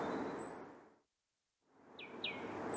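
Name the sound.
birds chirping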